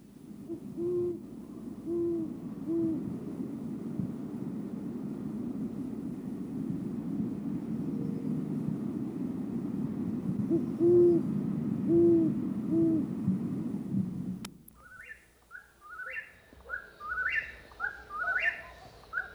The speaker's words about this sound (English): There is something ominously haunting about the sound of a great horned owl.